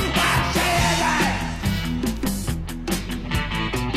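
A loud, strained yell rises out of a driving new wave track, riding over steady drums, bass and guitar that play continuously for a few seconds.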